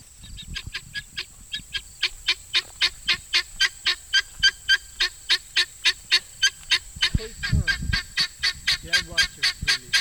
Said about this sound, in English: I noticed one of the birds making a lot of noise on top of a large covered bale of straw.